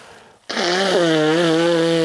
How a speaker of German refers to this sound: Ich muss kurz, bevor ich mein Lied sage, darf ich mir kurz die Nase putzen? Okay.